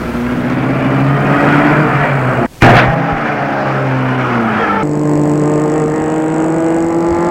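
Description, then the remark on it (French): A car engine, started by a man with a woman getting in as passenger, hums steadily with a droning tone, cuts out briefly, then roars back with a sharp burst and keeps running as the pitch shifts, like the car pulling away. No voices. “Elle entre et il met la voiture en route.”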